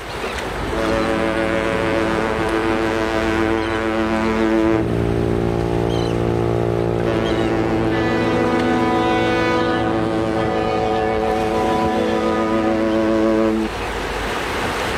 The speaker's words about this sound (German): ich mache uns jetzt einfach zum Trost mal ein Konservenglas-Hafenstimmung auf